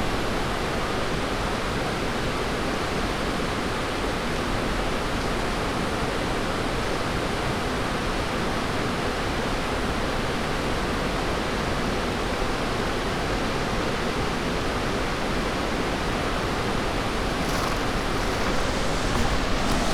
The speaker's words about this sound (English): We are at High Steel Bridge, the nation's tallest railroad bridge. The water on the north side sounds different than the south side. We're going to listen to the north side first.